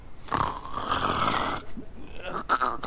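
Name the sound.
pig grunting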